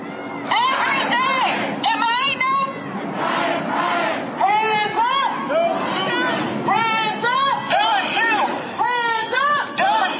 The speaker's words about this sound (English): So just a massive crowd chanting, hands up, don't shoot.